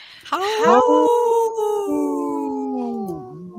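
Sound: wolf howling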